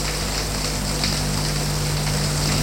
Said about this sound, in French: Elle entre dans la baignoire qui lui paraît minuscule. Fait couler l'eau. Il y a trop de tuyauterie. Ça fait du bruit.